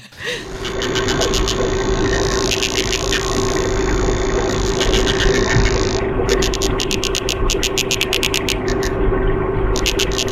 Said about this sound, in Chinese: 不是什么你楼上又开电钻了，或者是怎么着，就是那个鱼在发声。 但是它真的像电钻。